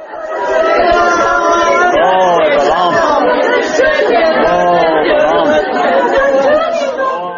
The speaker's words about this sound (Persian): ناله و فغان پیوندان شاهین محیبوف یک مهاجر کاری را از پی تابوت او می شنیدید که روز یکشنبه گذشته در زادگاه شهر پنجکند به خاک سپاریده شد.